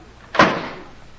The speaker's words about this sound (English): Close the door, please.